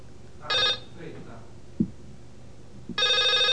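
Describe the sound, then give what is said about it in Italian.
A telephone rings twice in short electronic trilling bursts, loud, with a quiet gap between them broken by a soft thump; an incoming call during a live radio programme. “Ecco, c'è una telefonata, io non è prevista telefonata in diretta in questo programma, quindi non so chi sia, però rispondiamo ovviamente, perché sennò...”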